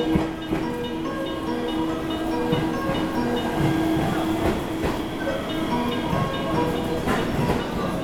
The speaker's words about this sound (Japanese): 到着の電車琵琶湖線普通電車長浜行きです。終点長浜まで各駅に停まります。